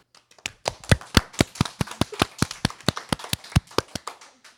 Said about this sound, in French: Merci de les applaudir très fort.